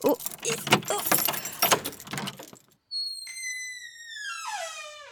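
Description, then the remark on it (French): A heavy bunch of keys with an enormous key jangles and rattles in bright metallic bursts for a couple of seconds as it unlocks a door of a house in Marseille. After a short pause the door creaks open with a long, sliding, downward-pitched squeal. “Allez, je prends la clé, c'est une énorme clé comme vous pouvez le voir, parce que pour ouvrir la porte de l'imaginaire, forcément, il faut des très grosses clés.”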